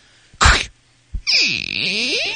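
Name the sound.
door opening sound effect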